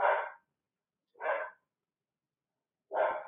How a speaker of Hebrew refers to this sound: היא נובחת על משהו ספציפי, או שזה... זהו, אני לא יודעת.